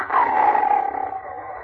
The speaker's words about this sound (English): The night seemed endless. I could not sleep. In addition to the usual sounds of the jungle, the air was rent by the roar of a lion.